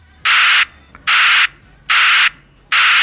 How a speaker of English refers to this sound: It's almost like white noise. It's a little bit better than that it's piercing static.